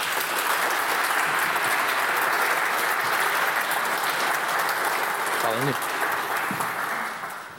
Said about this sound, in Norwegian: En stor applaus til Rosenborgs trener Freyr Alexandersson.